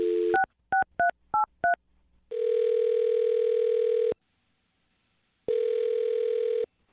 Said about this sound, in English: All right, I'm going to dial her phone number right now and see if we can figure out what went wrong, okay?